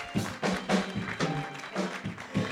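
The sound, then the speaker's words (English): A crowd claps hands together in a steady, rhythmic beat, the sharp bursts repeating quickly over a low, humming tone, moderately loud. “I thought we could clap louder than this one.”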